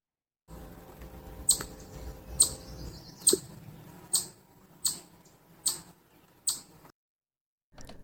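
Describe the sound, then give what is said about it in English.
A chipmunk's alarm call, the classic noise it makes when scared or yelling at someone coming too close: seven sharp, high-pitched chips repeated at a steady, slightly slow rhythm over a soft background hiss, each one short and piercing. “This one is the classic chipmunk noise that I do know that it tends to do if it's scared or trying to yell at someone who's coming too close.”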